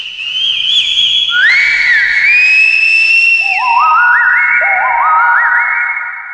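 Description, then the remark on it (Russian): A menacing, drawn-out whistle with heavy echo, its sliding, warbling tones layering and overlapping as they repeat. Loud and sustained throughout, with no voices. “Который свистом своим убивал путников на дорогах.”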